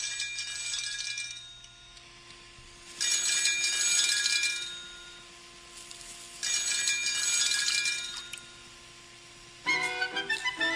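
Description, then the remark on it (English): At the start of a TV show's theme song, a telephone rings in three long, bright trilling bursts separated by short pauses, then a brief burst of tinkly, higher musical notes begins at the end. No one speaks. “Okay, so I don't want to play the whole song because it's kind of long, but, like, it's just, like, the phone rings, and then they get, like, they hear, like, a baby animal, like a bird or something, like, chirping or something like that”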